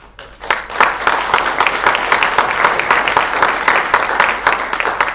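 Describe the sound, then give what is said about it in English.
A film audience bursts into applause for the filmmaker after a brief quiet moment, with many hands clapping in a dense, steady, loud patter that holds for several seconds and includes no voices. “So I want to applaud you for dedicating yourself to this.”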